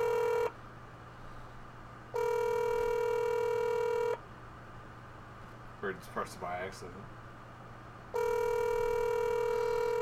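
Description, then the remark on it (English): A phone's calling tone rings out in steady two-second bursts with long pauses between, a buzzy mid-pitched hum over a low background drone; a brief voice murmurs once during one gap. “I have to dress up and dial up before I can call him again.”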